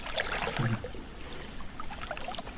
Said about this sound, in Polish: Jak sobie nalejam wody.